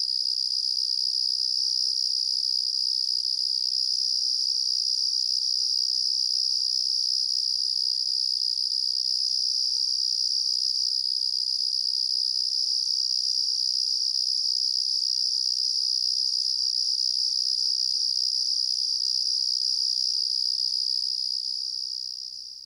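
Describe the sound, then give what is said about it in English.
A Carolina ground cricket gives its breeding call, trilling continuously in a steady, penetrating high-pitched buzz that holds unbroken for over twenty seconds, loud, with no other sounds. “In contrast, many other species of crickets produce extended or continuous high-pitched trills, such as the penetrating breeding call of the Carolina ground cricket.”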